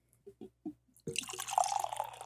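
Beer is poured into a glass: a few short glugging splashes, then a steady, fizzy rush of liquid filling the glass with a rising pitch. No one speaks.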